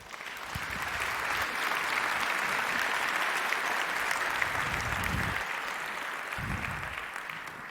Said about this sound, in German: Bitte einen großen Applaus